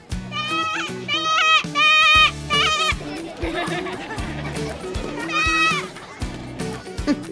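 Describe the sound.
Dance company performers playing sheep bleat in wavering, quavering bursts, several overlapping loudly, with short pauses between rounds of imitated baa-ing, at La Jolla Playhouse's Without Walls Festival.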